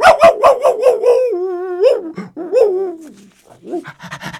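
A dog lets out a quick run of about half a dozen sharp barks, then breaks into a long wavering howl that rises and falls, ending in a few scattered yips. Fairly loud.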